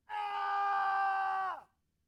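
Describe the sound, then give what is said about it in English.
A person lets out one loud, sustained yell lasting about a second and a half, steady in pitch before sliding down and cutting off, with no other sounds around it. “Because we think by yelling at our problem that our point is more valid.”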